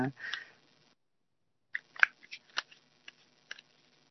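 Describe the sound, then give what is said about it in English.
A deck of cards being shuffled: a short papery rustle, a pause, then a run of crisp, irregular snaps and flicks as the cards are handled, fairly quiet with no talking. “Now, I will do some more shuffling, just in case anyone else”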